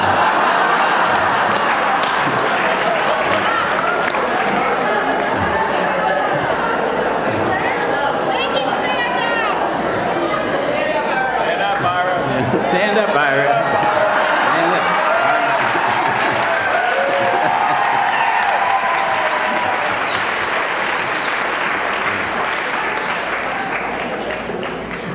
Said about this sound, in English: Look from where you are, but from where I looked at standing, it looked like it was all the women that were applauding right now.